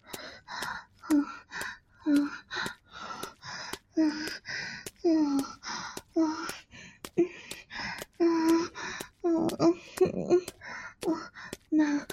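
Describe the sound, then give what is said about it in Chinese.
Heavy, rapid panting breaths from running repeat in a steady rhythm, with some breaths carrying a voiced, strained edge, and no talking throughout. “这只是我跑步的喘息啊”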